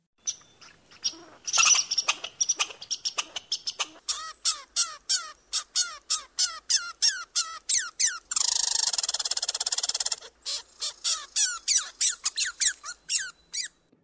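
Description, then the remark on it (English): An angry squirrel scolds in a rapid series of sharp, high chirping barks, broken midway by a couple of seconds of harsh buzzing rasp, then resuming its steady chatter, loud. “But now let's look at an actual recording of a squirrel being angry.”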